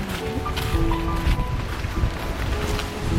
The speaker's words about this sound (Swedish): Ett blåsigt Helsingborg.